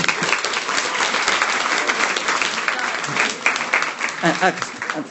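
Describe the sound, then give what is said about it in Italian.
A group claps steadily for several seconds in a dense, continuous burst of applause for a couple married eight days earlier, with a few voices and cheers rising briefly near the end. “Quindi oggi fanno 8 giorni di matrimonio, facciamo un applauso.”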